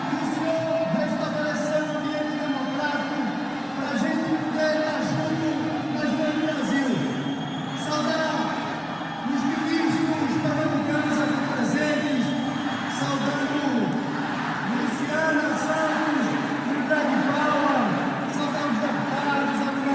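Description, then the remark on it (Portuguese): A large crowd at the Geraldão boos João Campos during a PPA ceremony attended by Lula, a dense, sustained roar of many overlapping voices that swells and dips slightly but never stops over the whole stretch, fairly loud throughout. “Isso é João Campos sendo vaiado, gente, no Geraldão, quando o Lula veio aqui e ele foi participar da solenidade no PPA.”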